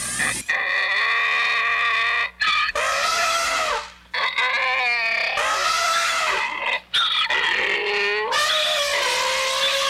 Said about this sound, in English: This has been the presidential debate, as interpreted and performed by an elephant and a donkey.